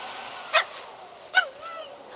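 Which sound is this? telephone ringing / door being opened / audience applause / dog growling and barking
dog growling and barking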